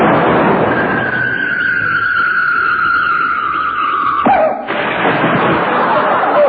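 A loud, sustained roar as a circus cannon loaded with too much gunpowder fires, carrying a long falling whistle as a human cannonball flies through the air, then a sharp crash of impact against a brick wall before the roar continues.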